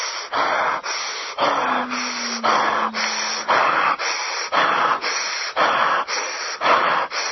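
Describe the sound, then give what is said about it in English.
Forceful, heavy breathing, with rapid loud breaths repeating in a steady rhythm, roughly ten or eleven strong puffs over several seconds and no talking, as a person turns up their breathing to power into a session. “You can just turn up your breathing like that and just power your way into a session.”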